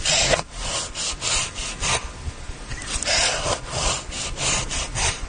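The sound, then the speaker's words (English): A knife slicing through a tomato, played backwards: a steady run of about ten rasping, saw-like strokes, each swelling and fading in a regular rhythm, with no voices. “Yeah, he's cutting a tomato, but they reversed it.”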